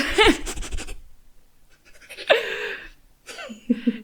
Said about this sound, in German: Ich glaube, mein Hund atmet glatt lauter in dieses Mikro, als ich rede, ey.